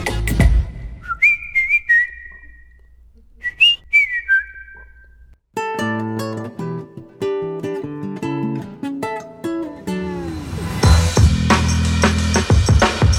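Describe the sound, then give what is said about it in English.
Someone whistles a bouncy little tune in two short, clear phrases with sliding notes. After about five seconds, full instrumental music starts and continues loudly to the end. “But I couldn't stop whistling.”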